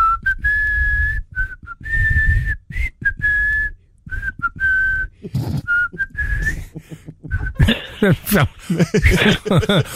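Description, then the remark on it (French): Someone whistles a tune, a clear bright melody in short phrases with brief pauses, for several seconds before breaking off into breathy chuckling at the end. “Tu siffles très bien, petit rossignol.”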